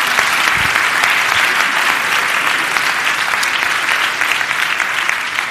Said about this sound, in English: Give all these people a round of applause, would you?